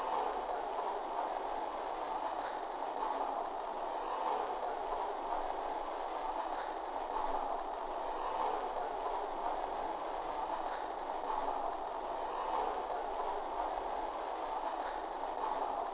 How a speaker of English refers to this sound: Now departing for New York on track 1, train number 26, the 20th Century Limited.